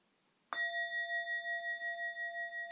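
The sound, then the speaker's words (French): A bell is struck once, then rings on with a sustained, shimmering tone whose loudness gently pulses as it lingers. The strike is clear, with no other sounds around it. It is the first of three bell sounds and signals people to come out of a held posture, relax and stretch. “Je vais donner un son de cloche et je vous invite à sortir de la posture”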